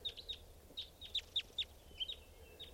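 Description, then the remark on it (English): A flock of about 20 birds chirping, a dozen or so short, high-pitched calls in an uneven, overlapping patter, moderately loud over a low, steady background rumble. “There's a bird right here, staying here.”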